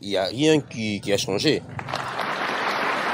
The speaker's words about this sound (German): Heute vor 60 Jahren galt dieser Applaus dem damaligen belgischen König Baudouin. Der war in den Kongo gereist, um die belgische Kolonie in die Unabhängigkeit zu entlassen.